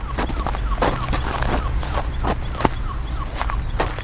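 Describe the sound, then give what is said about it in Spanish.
Footsteps crunch in the morning over snow much harder than the day before, with many ice patches around, in a steady walking rhythm, each step a brittle, gritty crackle, with a low constant rumble underneath and no voices. “Pero para que os hagáis una idea, y todos nuestros oyentes también, la nieve, las placas, la nieve está mucho más dura que ayer, y hay muchísimas placas de hielos de hielo por aquí a mi alrededor, y el sonido era este, escuchad.”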